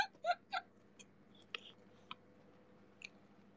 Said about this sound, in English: You can hear my chewing noise. I don't talk much. I'm just eating.